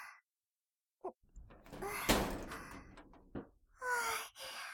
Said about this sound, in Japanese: っていうか、この扉、ここを回せば、内側から開けられるじゃないですか。なんで気づかなかったんですか？